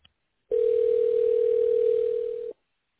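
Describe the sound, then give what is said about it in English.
A single steady electronic phone tone, like a ring heard down the line, holds at one even pitch for about two seconds, fairly loud and clean, then cuts off. No one speaks. “Oh, your phone.”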